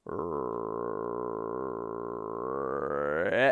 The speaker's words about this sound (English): with the old mad buck growl